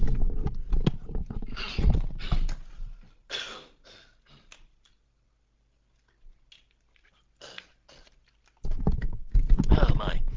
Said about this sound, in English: Okay, just going to take off this headset here for just a second. to have a little cough and a quick drink, if you don't mind. These are the human factors.